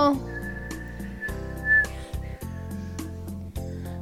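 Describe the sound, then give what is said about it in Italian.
A thin, steady whistling gust of strong wind rises and swells for about a second and a half, a sound effect in a reading of the children's book Tutino è il vento, heard over a bouncy instrumental backing with rhythmic low notes. “Che folata, c'è un gran vento.”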